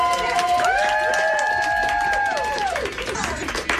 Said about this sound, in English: What is that? That is nurses and doctors. The new trend is that they are lining the halls and they cheer whenever a COVID-positive patient's condition has improved, that they can be moved out of ICU into a regular floor or be discharged altogether.